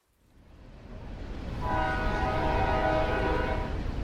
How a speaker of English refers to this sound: See the train? Yeah. So that's over what used to be the canal right below it. That's on the same line of run of road that was the canal.